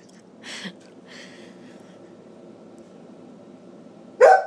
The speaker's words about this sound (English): that is Bristol's crazy deaf dog bark